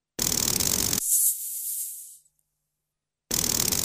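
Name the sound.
snake hissing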